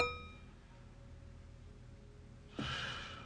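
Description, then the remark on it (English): A glass rim is flicked, leaving a faint, thin ringing tone with several high overtones that slowly fades over a couple of seconds, followed by a short, breathy rush of noise. “He flicks the rim of his glass.”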